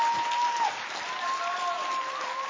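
A group applauds a quiz contestant who leads by one point, with dense, steady clapping that holds at an even loudness for the whole stretch, with a faint thin tone running faintly underneath.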